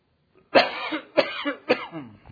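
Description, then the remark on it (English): Three sharp coughs in quick succession, each a harsh burst trailing off raggedly, with no talking in between. “All right, if I had a cough drop.”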